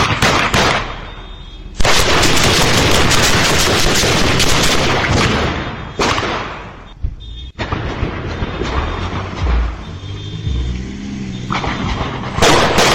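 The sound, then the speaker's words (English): Sustained bursts of rapid gunfire crackle loudly over several seconds, broken by brief pauses, then resume in dense volleys with no voices present. “Can we play this again? Just, I want to hear the gunfire.”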